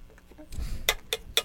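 Three sharp metallic clinks from a spoon banging on something, evenly spaced and fairly loud, following a softer rustle with faint low thumps.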